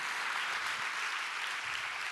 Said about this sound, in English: I think we should clap loud for that, because that's what the Bible says, and it's true.